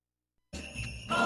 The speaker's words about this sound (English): Those holiday jingle bells, oh, those happy jingle bells. I love those jingle bells.